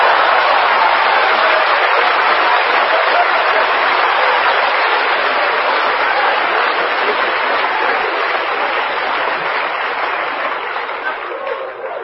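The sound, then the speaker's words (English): A crowd claps together in a loud, sustained burst of applause, a dense crackling roar that holds steady for about twelve seconds before easing slightly at the end, with no voices. “Just give a good clap to me.”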